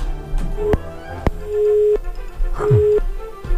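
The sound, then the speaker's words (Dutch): A telephone rings at the radio station Radio Tessel with a few steady electronic tones in a repeating pattern, clear, with sharp clicks and knocks between them and no one speaking. “Nou, wachten tot de telefoon gaat. Ja, nou, daar gaat hij.”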